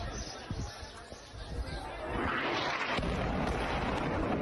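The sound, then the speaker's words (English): Two explosion booms throwing up heavy black smoke and dirt: a deep rumbling blast swells up, then a sharper second boom hits a moment later, both heavy, over a noisy background with faint crowd murmur. “Oh, no, there was two booms, wasn't there?”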